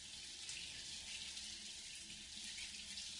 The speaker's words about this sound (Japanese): お湯が流れる。後ろの髪から泡がするりと消えていく。